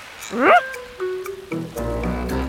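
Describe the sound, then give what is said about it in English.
A single short, rising cat meow sounds, then trails into steady electronic-sounding tones and a brief burst of voice-like sound near the end. “On a cat? Meow.”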